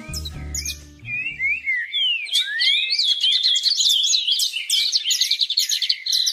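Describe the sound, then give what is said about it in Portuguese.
Many small birds chirp and twitter at once as their flocks gradually arrive and gather, a dense, busy chorus of high tweets and short whistles that builds quickly after a brief low rumble at the start and keeps going steadily. “Aos poucos, os bandos foram chegando.”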